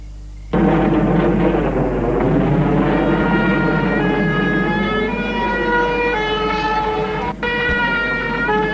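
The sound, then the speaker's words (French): A fire engine siren blares loudly and steadily, its wailing tone rising and falling over the low rumble of the truck's engine as firefighters arrive at a burning house. “Les pompiers arrivent.”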